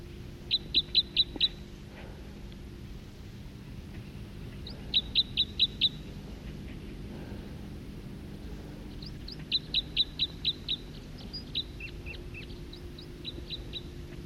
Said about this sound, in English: song of a bird right close.